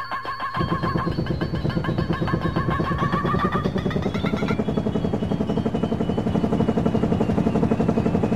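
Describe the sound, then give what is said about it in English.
A helicopter's rotor chops loudly and steadily after a brief quiet start, a fast thumping beat layered over a dense engine roar, continuous with no voices. “I'm gonna have to hop in the chopper and, make a getaway.”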